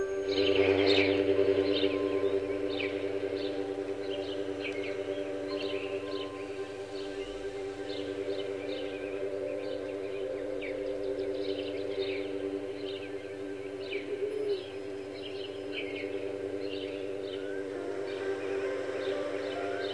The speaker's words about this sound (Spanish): Voy a descansar un momentito y tú te escuchas estos animales del bosque que están muy contentos y muy felices.